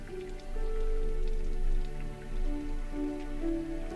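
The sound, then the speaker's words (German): Warm, light summer rain patters softly throughout, a gentle continuous hiss of drops, layered with a warm sustained musical drone underneath. No voices. “Und den warmen, leichten Regen.”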